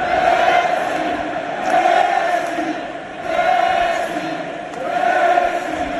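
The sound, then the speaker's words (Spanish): A full Camp Nou stadium crowd chants "Messi, Messi" in unison in the 10th minute of a match, the loud, roaring chant rising and falling in a steady rhythm, about four swells over six seconds. “En el minuto 10 del partido, el Camp Nou, lleno hasta la bandera, ha cantado esto.”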